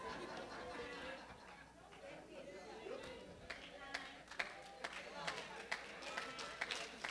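A crowd murmurs and chatters, then sharp, loud handclaps break through in an uneven burst, with individual claps ringing out above the steady noise of the audience.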